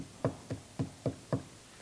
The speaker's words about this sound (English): I hear the front door open, and I hear the little pitter-patter of the two little red-headed Mexican twins. And the knock at the door.